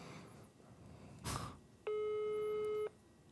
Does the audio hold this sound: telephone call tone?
yes